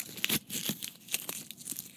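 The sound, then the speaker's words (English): Crisp crinkling and tearing of foil and paper wrappers being unwrapped from candy cane kisses, with sharp rustling bursts scattered irregularly over a couple of seconds and no talking. “let's unwrap these and then keep talking.”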